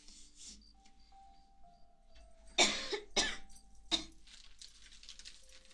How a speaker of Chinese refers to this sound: 咳嗽跟吃油炸的有关系吗？我老喜欢吃了。